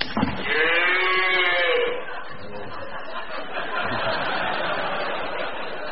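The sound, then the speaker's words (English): A person imitates a cow with a loud, drawn-out moo lasting over a second, followed by a few seconds of laughter and overlapping chatter from a small group. “We did the cow. We did the cow.”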